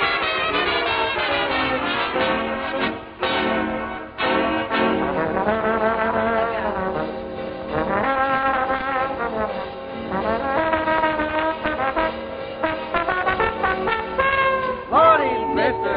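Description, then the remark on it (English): A trombone plays a lively jive solo over a swinging band, its brassy notes bending and sliding, with a pronounced smear near the end, loud and continuous throughout. “Well, listen while I come alive and give out with that trombone jive.”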